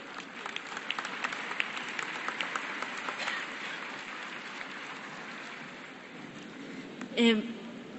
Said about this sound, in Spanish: Le pido ese aplauso.